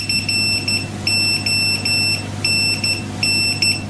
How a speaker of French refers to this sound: Il y a une marque de téléphonie qui s'est amusée avec le morse, Nokia. Est-ce que vous vous rappelez de leur phrase principale, leur slogan? Ah, connecting people. Exactement. Eh bien, la sonnerie en morse donne justement connecting people.